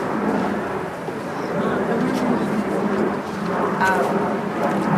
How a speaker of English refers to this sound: it's been raining